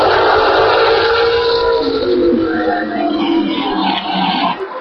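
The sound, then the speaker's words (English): A truly historic, bullet-shaped silver Formula One car driven by David Coulthard roars by on a tarmac track banked by hay bales, its raspy engine loud and continuous, with the pitch sliding and shifting as it passes and dipping slightly at the end. No one speaks. “The noise you've just heard is David Coulthard driving a truly historic bullet-shaped silver, very, very old F1 car.”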